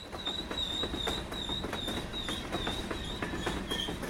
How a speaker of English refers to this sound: Here comes the train.